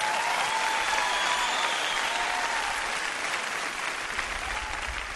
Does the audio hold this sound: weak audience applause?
yes